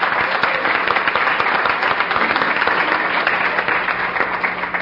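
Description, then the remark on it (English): An audience claps steadily for several seconds, a dense, even patter of many hands at a consistent loudness with no voices breaking through. “So let's do a round of applause.”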